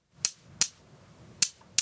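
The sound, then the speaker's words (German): Two small pebbles knock together four times to imitate a bird's call, crisp bright clicks arriving in two quick pairs separated by a short pause, fairly quiet over a faint low background hum. “So, und jetzt meine nahezu perfekte Imitation mit zwei kleinen Kieselsteinen.”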